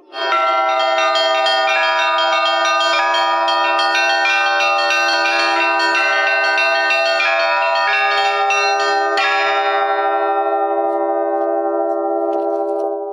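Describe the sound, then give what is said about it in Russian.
Newly consecrated church bells on the belfry of the Pokrovsky Cathedral in Tambov, Russia, ring out in a continuous festive peal for the feast of Pokrov (the Intercession), overlapping strikes blending into a loud, rich, sustained chime with no voices present. “Их мелодичные перезвоны возвещают всему городу о празднике Покрова.”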